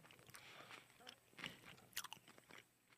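Chewing of a hot meat dumpling with vegetables and thickly cut green onion, taken in one bite, a series of soft, wet bites and crunches repeating irregularly over a few seconds, with faint background noise and no clear talking.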